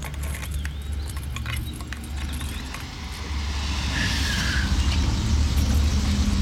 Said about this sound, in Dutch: Ik probeer mijn wagen open te krijgen, maar het lukt niet zo best, want ik kan het gaatje niet vinden.